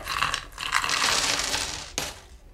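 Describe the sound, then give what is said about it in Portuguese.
A jumble of coins spills out of an opened coin bank and clatters together in a steady metallic rush, ending with one sharp clink before fading. Fairly loud, with no voices. “Chegou a hora de abrir o cofre.”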